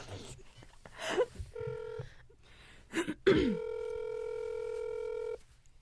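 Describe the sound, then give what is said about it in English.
A phone call rings out: a short steady electronic tone, then a longer one lasting about two seconds, with brief bursts of voices just before each tone. “Okay, but we have to call on your phone because I need the Google Doc.”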